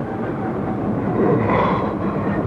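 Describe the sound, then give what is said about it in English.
A train slows as it approaches Reading, the last stop before Paddington: a steady, dense low rumbling roar with a faint rise and fall, continuous throughout with no voices. “Train's slowing.”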